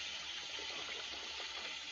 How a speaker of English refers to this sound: Splashes water on his face.